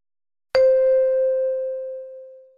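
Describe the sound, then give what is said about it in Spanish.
A single clear bell chime strikes once as a signal in a listening exercise, ringing out with a long, smoothly fading tone, loud, with no voices or other sounds around it. “Al oír el timbre, proceda a completar las siguientes frases con la información que falta.”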